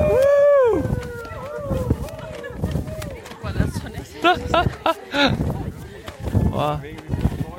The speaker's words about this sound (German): Lasst uns jetzt einfach mal so selber in den Schwung Gottes kommen und einfach so hineinstellen als Gruppe, okay? Und wenn ihr wollt, könnt ihr dazu auch einfach mal jubeln oder yeah!